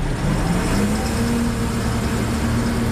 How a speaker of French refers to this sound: 150 blindés et camions, 700 militaires se sont rassemblés pour lancer l'opération Bourgou dans le Gourma. Au petit matin, le convoi s'engage sur la route nationale 16.